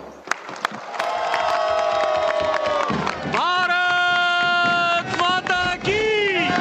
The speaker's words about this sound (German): Die Delegation des indischen Ministers für Tourismus und Kultur bricht in Jubel aus und schwenkt Fähnchen.